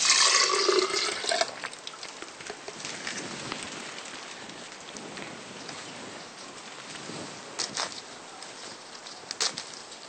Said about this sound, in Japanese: それではまずよく洗ったブドウをミキサーにかけます。絞ります。絞った分をまたミキサーに戻します。